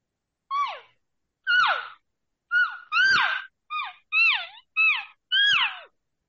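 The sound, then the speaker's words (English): A person vocally imitates an elk calf: eight short, whiny mews, each a tonal squeal that slides downward in pitch, repeated in a loose, uneven rhythm with brief silences between, no talking. “And the easiest sound to do in the woods is a calf sound. So if you can mimic that calf sound, which is just, you know, just light cow.”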